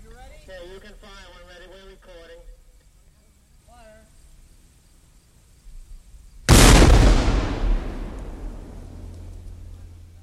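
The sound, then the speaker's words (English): A single loud French cannon blast, fired in a test, erupts suddenly after a stretch of quieter voices, its boom rolling and reverberating as it slowly fades. “As you heard, the first French shot was a success.”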